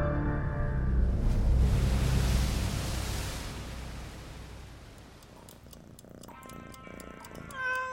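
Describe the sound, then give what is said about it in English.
A cat named Sphinx meows, a drawn-out cry at the start and short, higher mews near the end, over a broad hiss of background noise with no one talking. “If that cat had thumbs, he'd have written you a Jane come home letter months ago.”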